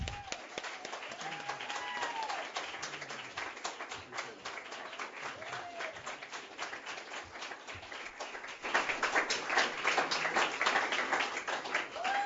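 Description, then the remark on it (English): Steady audience applause in Austin welcoming Dr. Andrew Wakefield, a dense wash of many hands clapping that swells louder toward the end, with faint voices mixed in beneath the clapping. “You may not be applauding at the end.”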